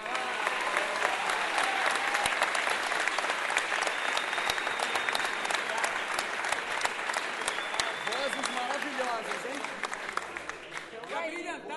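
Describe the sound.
Steady, dense audience applause at a samba circle, called for two women, many hands clapping at once in a bright crackle, with a few whoops and voices mixed in before it begins to thin at the end.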